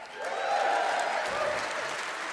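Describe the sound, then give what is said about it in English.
An audience applauds in a steady, dense wash of clapping that holds at an even loudness throughout, with no pauses or individual claps standing out. “Don't clap till we have a verdict.”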